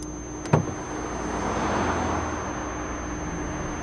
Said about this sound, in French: Sortir de la voiture face aux autres voitures qui filent.